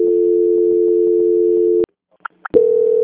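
A steady, low telephone line tone hums continuously, cuts out abruptly into silence broken by two brief chirps, then the tone resumes, as a phone call is transferred on a faulty telephone that plays music and comes back without being answered.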